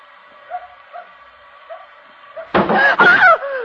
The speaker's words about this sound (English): Something hit the back of the car.